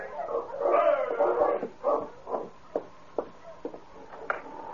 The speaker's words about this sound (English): Winter had again clamped its icy fingers on the Yukon territory. The long nights were lonely ones for Dave, and his face lighted up with pleasure as he heard the sound of Sergeant Preston's dog team stopping at the cabin.